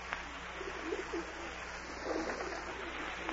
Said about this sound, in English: Go away, pigeon. Phew, go on. I haven't any peanuts. Go away. Make yourself a nice pigeon nest and sit in it. You know, you birds are just as stubborn as my board of directors. Only you sound a little more intelligent.